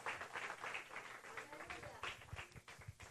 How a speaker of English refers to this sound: Dátele un aplauso a Dios. Give an applause to the Lord.